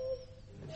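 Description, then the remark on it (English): A brief imitation of a cuckoo call: clear, hollow whistled notes at moderate loudness, with no talking, cut off at the end. “You do a better cuckoo than E.”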